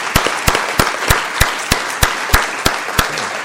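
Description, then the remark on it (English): A crowd applauds steadily for Cindy Varney, Clerical Support Employee of the Year, a dense patter of many hands with one loud, sharp clap standing out in an even rhythm about three times a second. No one speaks. “But so please give your applause to Cindy Varney, our Clerical Support Employee of the Year.”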